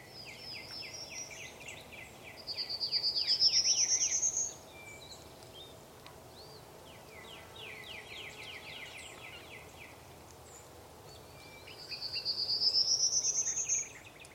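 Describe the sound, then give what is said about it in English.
A prairie warbler, a striped yellow, black and rust-colored bird, sings its buzzy song that rises steadily in pitch, twice several seconds apart, standing out over a constant chorus of crickets and other insects; no voices. “The prominent bird with the ascending song is a prairie warbler.”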